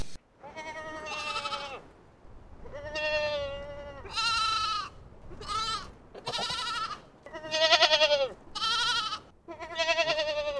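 Sheep bleat repeatedly, around eight loud, wavering calls coming one after another, some overlapping as if several animals are calling, with no voices.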